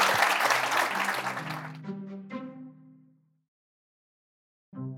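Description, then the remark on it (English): A dense burst of audience applause for Judy Marks fills the opening seconds, mixed with a short musical sting that rings on and fades into silence before a voice starts speaking at the very end. “Let's please give Judy Marks a round of applause.”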